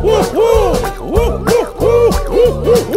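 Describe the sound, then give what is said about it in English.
A voice imitates an owl, giving a quick series of loud, rising-and-falling hoots in a bouncy rhythm, with several hoots close together over a few seconds. “Let's all make some animal sounds. Who'd like an owl?”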